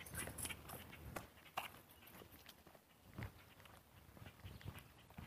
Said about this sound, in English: Lady with a big dog and a small auxiliary dog.